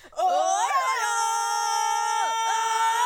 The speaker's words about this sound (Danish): De har været helt, helt stille hele ugen. Men nu får de endelig lov. De råber og skriger.